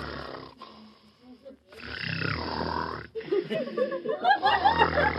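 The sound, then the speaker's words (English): A contestant in an imitation contest judged by an applause meter imitates a jet-propelled plane with a loud, breathy, roaring whoosh that holds for a second or two, followed by rougher, wavering vocal noises that sound like chuckling. “That last one was one of those jet-propelled planes, I think is what we had.”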